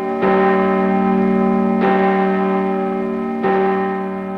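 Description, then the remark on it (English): A large cathedral bell, rung by Quasimodo in the bell tower, tolls three times at a slow, steady pace, each loud strike blooming into a long, rich ringing hum that overlaps the next, with no voices present. “Quasimodo strains at his task up in the bell tower.”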